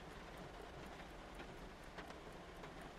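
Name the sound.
steady rain falling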